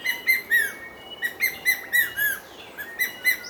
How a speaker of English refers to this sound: Quite a rhythm, huh? It might not be your average call for either a hawk or an eagle, but it's the distinctive call of the ornate hawk eagle.